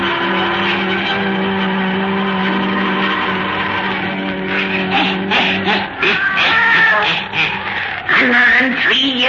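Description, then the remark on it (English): A black cat named Satan gives a long, drawn-out meow that holds steady for several seconds, loud, before breaking into shorter, choppier vocal sounds toward the end. “and Satan, her wise black cat.”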